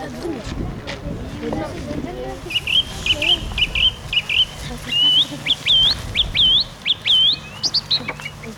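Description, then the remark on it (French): A song thrush sings clear, whistled phrases, repeating each short motif two or three times before switching to a new one, over a low, rustling outdoor background. “Vous voyez, la grue musicienne, elle répète des motifs comme ça. Elle répète un motif deux, trois fois, puis elle change de motif, puis elle change encore de motif, puis elle change encore de motif.”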